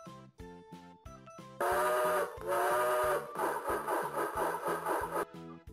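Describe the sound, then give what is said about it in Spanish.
A loud steam train whistle blares over a bouncy musical backing, then gives way to a rapid, pulsing chug-like pattern before the music carries on alone. “¿Cómo hace el tren?”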